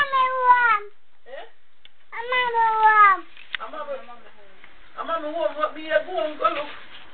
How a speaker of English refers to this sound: What a kitty. A kitty? How much kitty out there? One. Are you a kitty?